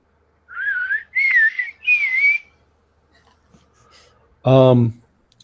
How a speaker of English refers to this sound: You notice something though. The sound of the ocarina, it's odd. It's almost producing a kind of discordant harmony, one that doesn't it doesn't sound like it's on a musical scale that we would be used to.